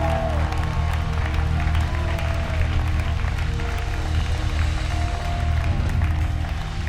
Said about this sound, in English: Can we continue to clap and just honour